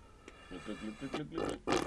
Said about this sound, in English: You can't do it well, can you? You can't do a slurp very well. Anyway, so you try and slurp with a nozzle.